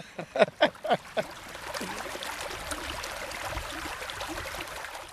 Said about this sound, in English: The present-day church is built on the site of a 6th-century monastic settlement. The river flows right past it.